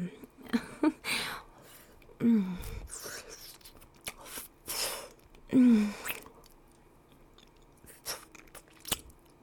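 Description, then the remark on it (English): A voice imitates slurping to simulate oral sex, with wet, smacking mouth noises in irregular bursts, broken up by two short, low hums, all at a moderate level. “Just make, slurping noises.”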